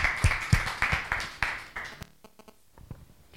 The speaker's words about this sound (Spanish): Un fuerte aplauso para todos.